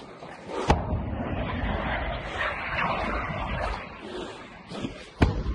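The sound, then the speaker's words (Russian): Two sharp cracks of shooting ring out about four and a half seconds apart over a steady, rumbling outdoor background, heard among ruins in an area not yet cleared of mines. “Ну и стрельба, соответственно, идет.”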